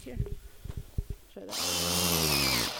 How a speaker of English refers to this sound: She drills a little hole into the tree.